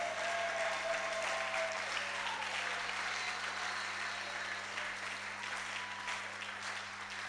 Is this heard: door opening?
no